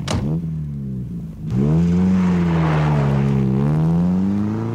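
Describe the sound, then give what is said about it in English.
A car engine idles, then revs up loudly with a rising, sustained roar as the vehicle pulls away, staying steady with no one talking. “Get in the car. You're gonna be a star.”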